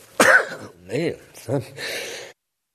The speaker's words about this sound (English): Man, something caused me to sneeze.